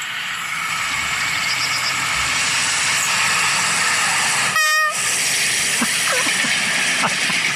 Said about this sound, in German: Ist das ein Zug, der vorbeifährt? Es ist ein alter Triebwagen, so ein weinroter Triebwagen, der hier vorbeifährt